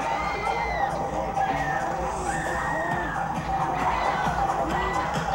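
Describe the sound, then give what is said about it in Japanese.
A dense crowd screams and shouts over one another in a steady, loud roar, with frantic high-pitched cries rising and falling throughout: a panicked audience packed on the dance floor of a nightclub in Tokyo at night. “パニック状態に陥ったダンスフロア、オーディエンスの叫び声が終わらぬ夜を引き裂く。”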